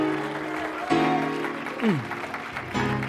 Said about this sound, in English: Come on, let's give God a hand clap of thanksgiving.